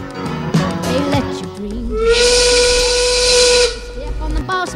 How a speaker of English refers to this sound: blow the whistle